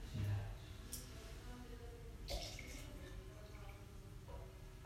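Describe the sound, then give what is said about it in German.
A few small drops of water trickle into a tea bowl while tea is being prepared, soft, at irregular intervals against a quiet, low background hum. “Jetzt siehst du erst, wie viel Wasser noch brauchst. Und da siehst du jetzt, dass du wenig Wasser brauchst. Da brauchst du noch ein paar Tropfen.”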